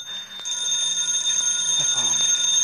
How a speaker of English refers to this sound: The phone.